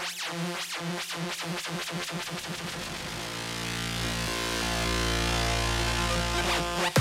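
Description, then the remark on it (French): A boat engine chugs in quick, regular pulses, then settles into a loud, steady rumbling drone with a faintly metallic, ringing edge. Harbour noise, with no voices. “On est dans l'émotion, dans la sensation pure, avec ce mélange de bruit, de bateaux, de sons voilà, métalliques, de son marin, de son mouette, et la mer qu'on entend aussi, et sa musique.”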